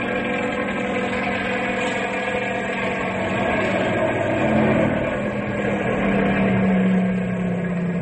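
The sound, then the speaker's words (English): A Ranger's snow car moves along a highway, its engine droning steadily like a low-flying small plane: a loud buzzing roar with humming tones that rise slightly in pitch toward the end, with no voices. “Sounds like a small plane flying low. Well, it is a small plane.”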